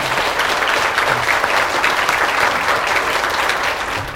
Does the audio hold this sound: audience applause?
yes